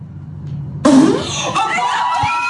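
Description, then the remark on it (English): A girl lets out a sudden, loud fart after a moment of low rumble, with a short sputtering buzz, then it gives way to a sustained wash of noisy commotion. “She farted blue smoke.”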